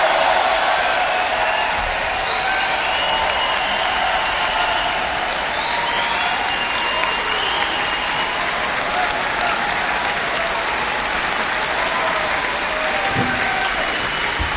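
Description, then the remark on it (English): Sustained audience applause for an orchestra, a dense, steady wash of many hands clapping for about fifteen seconds at an even loudness, with faint hints of cheering mixed in and no talking. “of applause for the ladies and gentlemen of this magnificent orchestra.”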